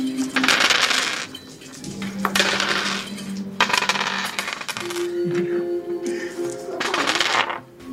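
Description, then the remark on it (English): Assorted gem-like dice from a bag clatter and rattle together in several loud bursts, hard little pieces knocking and ringing against each other with different sounds and brief pauses between rolls. No one speaks. “It's a bag of assorted gems. Yeah, they all are like gems. And I like that they make different sounds.”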